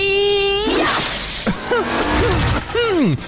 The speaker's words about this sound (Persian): آره بذار من اون شلاقمو بیارم. ای بابا این چرا اثر نکرد خانم؟ شلاقو بی خیال، همین کمربندم اوکی بود به خدا.